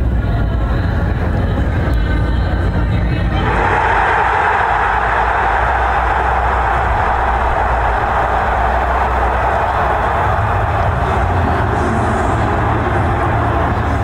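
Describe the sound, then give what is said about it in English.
A massive crowd in Detroit roars after the Lions make the Arnold draft pick, a dense, unbroken wall of cheering that swells sharply a few seconds in and stays loud and sustained to the end, with no clear voices standing out. “Superfly, you have the crowd noise in Detroit after they made the Arnold pick, the Lions.”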